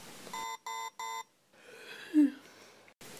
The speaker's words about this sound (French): Matin. 6h, réveil.